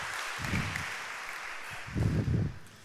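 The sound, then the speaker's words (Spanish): An audience claps steadily throughout in applause to the Lord during a morning sermon, a dense crackling wash of applause, with a few low cheering voices swelling up briefly within it. “Dan un aplauso al Señor.”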